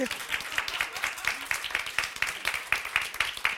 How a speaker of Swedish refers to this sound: Ska vi börja med en applåd? Bara för så här...